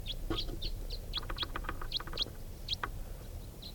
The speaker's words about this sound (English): And going from one grove to another, not stopping. Sounds like there are quite a few crossbills over there.